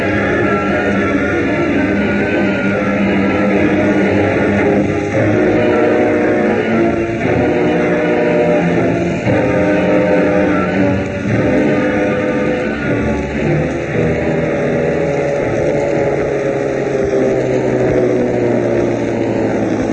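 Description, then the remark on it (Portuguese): A motorboat engine drones steadily and loudly throughout, a continuous roar with a low rumbling hum and no voices. “No meio do matagal, a lancha tá bem escondida.”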